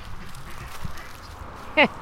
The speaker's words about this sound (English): Hello, duckies. Have you ever seen so many ducks in your life?